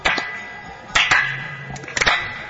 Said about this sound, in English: So Srivas Thakur's response was, he clapped his hands 3 times.